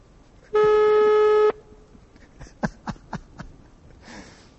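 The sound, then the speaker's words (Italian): A phone call being placed to call someone back: a loud, steady telephone tone holds for about a second, then a quick run of sharp clicks and a brief soft hiss follow. “Scusa, ti rubo qualche secondolo, ma voglio richiamare perché voglio sentire quando risponde, cosa dice.”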